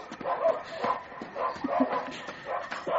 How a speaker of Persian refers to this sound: نبارید، من فقط میخوام اگه سگو تو قبرستون کلیسا بهت حمله کردن کمکت کنم. همین، باور کن خودت صدای پارس اونا رو میشنوی.